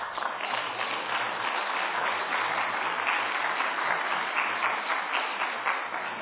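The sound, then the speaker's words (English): A crowd claps steadily and continuously for several seconds, a dense, even patter of many hands at a fairly loud, unchanging level with no voices standing out. “I'm tired of clapping by the last person, okay?”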